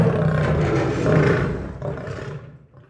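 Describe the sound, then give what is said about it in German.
A lion roars in one long, deep, rumbling call that swells in the middle and then fades away, loud, with no one speaking. “Ich finde das total traurig, weil ich finde Löwen auch was besondere Tiere und ich finde das auch total traurig, dass solche Jäger solche schönen Tiere jagen wollen.”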